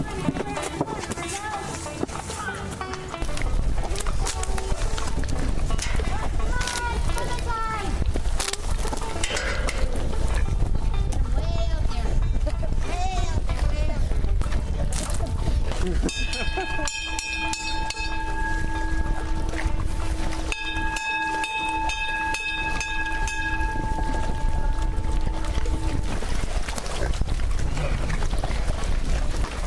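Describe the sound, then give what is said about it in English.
A herd of over 100 pigs at an animal sanctuary runs about and feeds on carrots thrown to them: a dense wall of grunts, squeals and scuffling hooves. Partway through, a steady high tone rings over the commotion. “That's the sound of over 100 happy pigs at Pigs Peace Sanctuary.”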